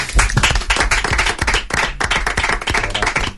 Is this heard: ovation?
yes